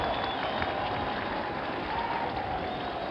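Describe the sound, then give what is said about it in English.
A large crowd applauds and cheers with cries of greeting and good wishes, a dense, steady roar of clapping and voices that holds at an even level throughout without any speech. “Cries of greeting and good wishes from the crowd.”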